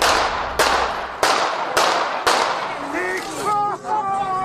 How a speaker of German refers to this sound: Die Leute sind da so hinter niedrigen Absperrungen. Er tritt auf sie zu und dann fallen Schüsse.